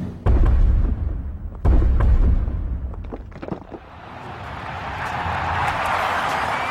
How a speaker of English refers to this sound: The crowd hushes, Dub C shakes the dice, and he rolls.